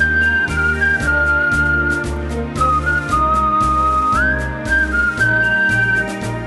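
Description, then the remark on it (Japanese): A clear whistled melody glides between sustained notes over a steady, bouncy instrumental backing with a regular beat and bass pulses. No one speaks. “そしてご要望の多かった口笛の楽曲も制作しました。”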